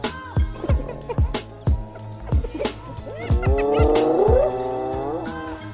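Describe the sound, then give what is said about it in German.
A hyena screams in shrill, wavering squeals whose pitch slides up and down, growing louder and more sustained in the second half, with sharp repeated thumps sounding throughout. “So hört es sich an, wenn eine Hyäne schreit.”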